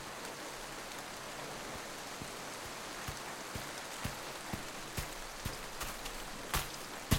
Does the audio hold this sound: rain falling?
yes